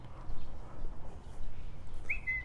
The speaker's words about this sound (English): I think that's a bird. Every time I walk past this house, I hear that little whistle, little cuckoo. At least I think it's a cuckoo. Could be wrong. Probably am.